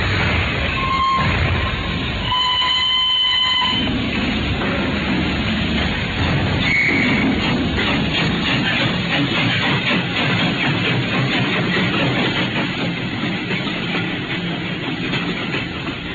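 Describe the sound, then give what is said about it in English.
A steam train pulls away from Paddington, its heavy rumbling and rhythmic clatter steady and fairly loud throughout, with a brief high whistle-like tone near the start and no voices. “Then on Saturday, unless you hear to the contrary, we shall meet at the 10:30 train from Paris.”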